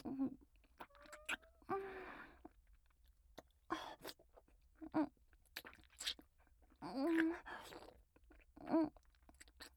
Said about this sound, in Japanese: ごめんね、少しもぐもぐするだけだから。くすぐったくても我慢して。